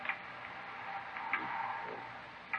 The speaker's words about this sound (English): Clock